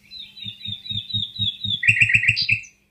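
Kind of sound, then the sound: bird, nightingale singing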